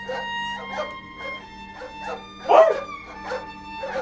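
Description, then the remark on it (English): Dogs bark repeatedly in the distance, a steady string of short, muffled yaps with one louder bark midway, over a constant low hum. “But he could hear the men and dogs in the distance.”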